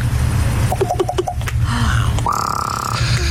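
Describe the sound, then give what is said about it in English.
A pair of ravens that sit outside a house every morning wanting breakfast make odd, strange vocalizations: a quick run of four short knocking notes, a brief gliding call, then a long steady buzzy tone, all over a constant low rumble. “Someone who has a pair of ravens who sit outside their house every morning wanting breakfast”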